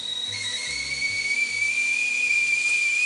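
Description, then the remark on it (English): A kettle whistles steadily as water boils, a sustained high-pitched tone that slides slightly lower over about three seconds, backed by a broad airy hiss of steam and faint low rumbling. “Every morning I got up and I just like boiled water.”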